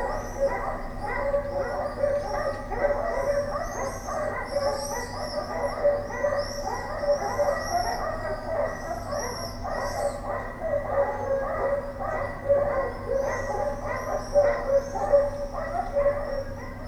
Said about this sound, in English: I think the dogs are the main focus of Inferno's opening scene